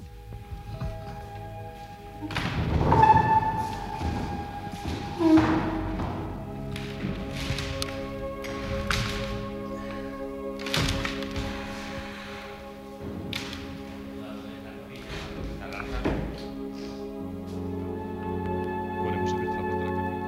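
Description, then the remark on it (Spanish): Three heavy wooden church benches standing by the door of a small chapel inside a roadside inn are shifted, giving a series of irregular thuds and knocks, some louder than others, spread out over a steady low background hum. “Tuvimos que quitar 3 bancos que estaban junto a la puerta para poder ver lo que era el altar de esta capilla ubicada dentro de la venta.”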